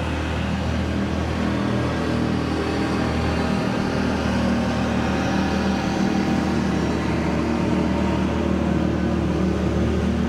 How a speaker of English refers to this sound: Some of these guys got different kinds of boat motors here. This guy's going by with all the noise is a go devil. Probably use it for duck hunting too.